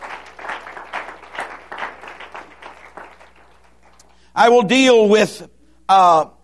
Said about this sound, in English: Can we give the Lord a hand clap of blessing?